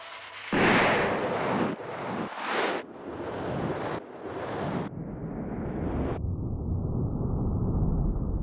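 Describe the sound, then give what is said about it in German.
A sudden loud burst of a firing squad's rifle volley, fired by soldiers in Nazi uniforms at a condemned man on the command "Feuer!", followed by a sustained roaring rush that turns duller in several abrupt steps while staying loud. No voices. “Die Soldaten stehen mit Gewehr im Anschlag.”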